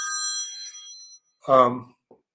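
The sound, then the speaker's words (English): The speaker's phone rings with a steady, bright electronic chime of layered high tones that fades after about a second, followed by a short burst of a voice. “Sorry about that. I should turn my phone off.”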